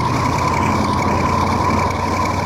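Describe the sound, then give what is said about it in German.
A motorboat engine, just started with a key, runs steadily and loudly as the boat heads away from an island, a continuous low droning rumble with a constant hum layered on top, no speech over it. “Der Motor läuft. Jetzt los, die Richtung, immer weg von der Insel.”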